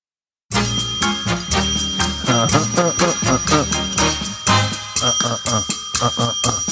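A bell rings over and over in quick, rhythmic strikes, loud, its bright metallic tone hanging on continuously for several seconds with no voices.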